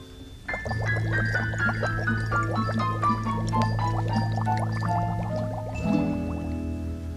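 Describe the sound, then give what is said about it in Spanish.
Steady water trickling and bubbling in a small stream, with quick dripping splashes throughout, layered over sustained musical tones for several seconds. “a esta le cae agua de un chorrito, …”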